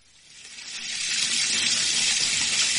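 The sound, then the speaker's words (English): Bath water gushes steadily from a tap, a broad hissing rush that swells over the first second and then holds loud and constant, with no voices. “Get into that water and have a good soak.”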